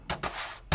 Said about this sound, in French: Un tambourin.